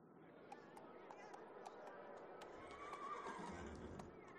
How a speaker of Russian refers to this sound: Снаружи доносились возбужденные голоса, стук копыт, храп и ржание коней.